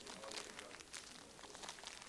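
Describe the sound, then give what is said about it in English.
A plastic packet crinkles and rustles as it is pulled and torn open, a steady, fairly soft crackle of wrapping lasting a couple of seconds with no talking. “How do we open these ones?”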